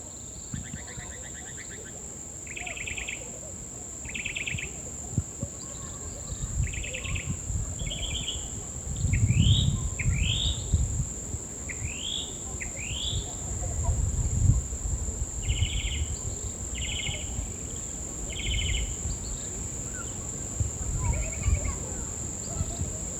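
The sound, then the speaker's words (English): Birds call outdoors in short repeated chirping bursts and quick rising whistles, over a steady high-pitched insect drone, rumble and a murmur of many kids' voices in the background. “A lot of birds glistening.”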